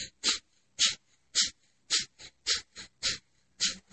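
Rapid, forceful kundalini yoga breaths pumped out in a steady rhythm, about two per second, each a sharp, hissing nasal puff, loud with no talking; the navel pulls inward on each exhale.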